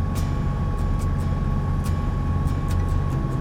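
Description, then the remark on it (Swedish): A Land Rover Defender drives uphill on a narrow, winding road with small steep slopes, its engine droning in a steady low rumble for several seconds, with scattered sharp rattles and knocks over the top. “Vägen blir smalare och krokigare medan bilen kör upp och ner för småbranta backar.”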